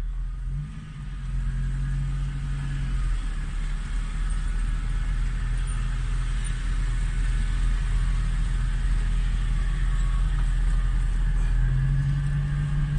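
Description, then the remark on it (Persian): Heavy truck engines at the Sogand truck garage rumble and idle steadily, with a low, sustained drone and a brief rev in pitch at the start and again near the end; no one speaks. “گاراژ سوگند، همه جور ماشینی اینجا میاد، تانک، کپی، کمپرسی.”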